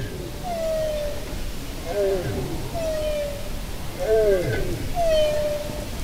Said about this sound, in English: This is a bowhead whale, recorded by the Norwegian Polar Institute. Scientists believe bowheads are the longest-lived mammals on the planet. Some have lived more than 200 years.